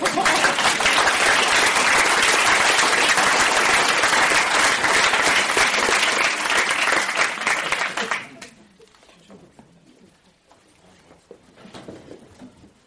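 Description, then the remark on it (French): An audience at an improvised theatre performance, asked to applaud before the players begin, breaks into loud, sustained applause, a dense wash of clapping for about eight seconds before it drops away into near silence with a few faint sounds. “C'est pour ça que nous allons vous demander, avant même que nous commencions à jouer, d'applaudir Chalon.”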